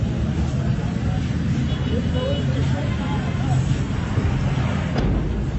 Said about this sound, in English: An air raid with a couple of hits at the center of Rafah. You can hear the people getting the hell out of there.